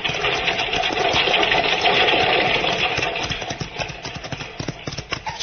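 A horse-drawn stagecoach rattles past on a sunny western trail near Brimstone, stirring up alkali dust, with hooves clopping in quick rhythmic beats over a steady clattering, rumbling din of wheels that stays loud throughout, then thins slightly toward the end.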